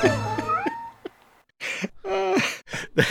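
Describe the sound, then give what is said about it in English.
Several cats meow loudly, their drawn-out, wavering calls overlapping in quick succession, with a short gap before another long yowl and two brief meows at the end. “Oh my God, who let all these cats out of the bag?”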